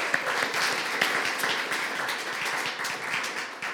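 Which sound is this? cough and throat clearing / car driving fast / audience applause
audience applause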